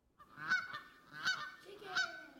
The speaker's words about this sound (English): A bird? What kind of bird? Geese. Canadian geese.